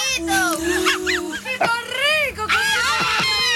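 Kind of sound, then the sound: crowd, people shouting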